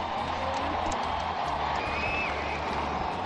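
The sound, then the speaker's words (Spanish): A large crowd applauding and cheering in St. Peter's Square as the balcony opens and the cardinal protodeacon comes out to announce the new pope after white smoke, a dense, steady roar of clapping and voices that keeps up without a break for the whole clip. “Y estamos atentos porque hay aplausos ahora mismo en la plaza de San Pedro y parece que hay fumata blanca a esta hora de la tarde, 6 y 8 minutos.”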